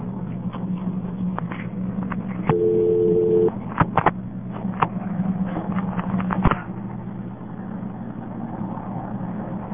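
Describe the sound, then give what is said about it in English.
The number 116 being dialed on a payphone: scattered sharp button clicks and a steady, second-long dual tone, all over a constant low hum of line or room noise, with no voices. “112 gives a fast busy, 116 gives this recording, I'll dial it for you, let's hear it go through.”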